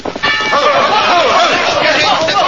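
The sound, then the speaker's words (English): A large bell, swung by the weight of a man hanging from its rope, rings out loudly and steadily as its clapper strikes, the tones ringing on and overlapping, with indistinct voices murmuring underneath. “The weight of his body swung the bell. Its clapper struck home.”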